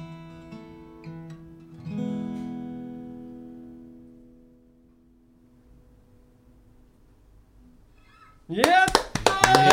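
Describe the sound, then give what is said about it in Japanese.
A sustained musical chord rings out and slowly fades to near silence, then a sudden burst of applause breaks out at the very end from an audience of passersby who stopped to listen, with a voice calling out over the clapping. “みんなから拍手を。”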